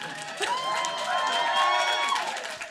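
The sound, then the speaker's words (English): An audience at a live show cheers and whoops for almost three seconds in response to a remark against the Tory government, a dense, steady roar of many voices with a few higher shouts rising above the crowd noise. “That will always get a cheer.”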